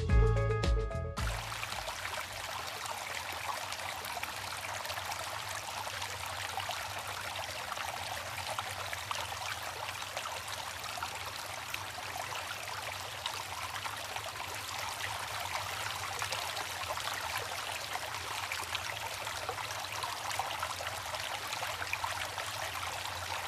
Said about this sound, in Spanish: Cierren esa llave, no desperdicien agua.